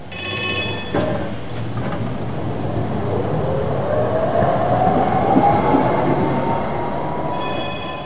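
A tram rumbles steadily along its rails, with a thin metallic wheel squeal rising through the middle and a bright bell ringing briefly at the start and again at the end. No one speaks.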